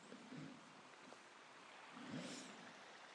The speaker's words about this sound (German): Aber tagsüber ist es nicht so leise wie jetzt. In der Nacht, da nur dieser Bach zu hören ist. Und wenn ich mich von dem Bach entferne, hört man gar nichts mehr.